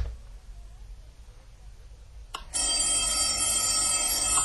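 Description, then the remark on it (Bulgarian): After a couple of seconds of near silence, a telephone bell starts ringing loudly, a continuous bright metallic jangle that fills the rest of the moment. “Търсят ме, а не мога да им отговоря.”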